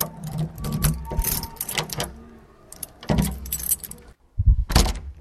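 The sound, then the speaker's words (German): Keys jangle and a lock clicks and rattles as a mother unlocks the door of her home, followed by a heavier thud and scrape of the door opening, with no voices. “Sie öffnet die Tür.”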